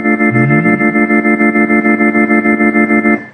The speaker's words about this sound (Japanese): トレモロ系か、やっぱり。 っぽい感じがするけどな、トレモロか。 スピード なんか、レズリーのスピーカーのスピードを変えた感じがしますよね。